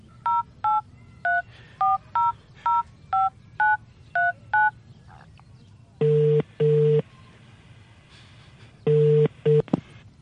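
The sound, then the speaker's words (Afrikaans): A phone number is punched in to call Linda, as about ten quick, evenly spaced two-tone keypad beeps, followed after a pause by low, buzzing ringing tones in short pairs. No one speaks. “Bel vir Linda. Dalk weet sy wat om te doen.”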